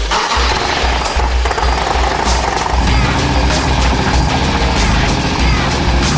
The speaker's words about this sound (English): You know, once again, these guys have outdone themselves. The motor sounds great, the paint really pops, and it looks like a badass chopper trike.